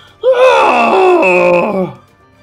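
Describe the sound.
A person imitates the pained scream of a creature hit on the snout by a pine cone thrown by Gandalf: one loud, strained, wavering vocal cry lasting nearly two seconds, with a sharp start and a falling, fading end.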